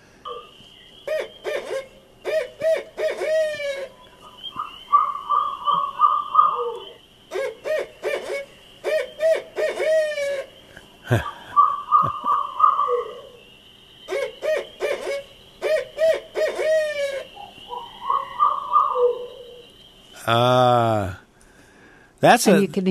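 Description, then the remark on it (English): A barred owl calls repeatedly in loud, rhythmic series of hoots and cackling notes, while a steady high chorus of spring peepers trills continuously in the background. “And we actually have some audio of a barred owl.”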